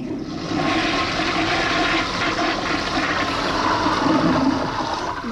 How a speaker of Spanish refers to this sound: En el hemisferio norte, el agua, cuando descargas la taza del baño, el remolino lo va a hacer hacia la derecha. Y en el hemisferio sur lo va a hacer hacia la izquierda.